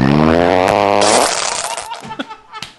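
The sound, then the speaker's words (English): A woman's loud, drawn-out fart with a low buzzing rumble, trailing off into a noisy sputter, followed by a few short scattered bursts of sound. “Every time she would fart, her peanut butter spackle would open up and you'd see a little hole.”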